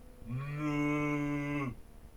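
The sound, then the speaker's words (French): A single sustained cow moo, loud, holding a steady low tone for about a second and a half before cutting off, with no talking. “Qui est en fait une vache d'ailleurs, donc on n'appelle plus la bestiole, mais la vache.”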